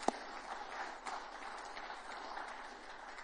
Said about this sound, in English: Would you agree with that? Can we clap about that? Can we give a little round of applause?